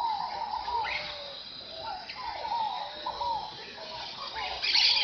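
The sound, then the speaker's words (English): A dense sunrise chorus of tropical birds by the Rio das Mortes in Mato Grosso, Brazil, including toucans, flycatchers, parakeets, antbirds, pygmy tyrants and macaws. Overlapping whistles and chirps play over a steady, high insect hum. No one speaks. “At sunrise, the River of the Dead comes alive with the sound of birds.”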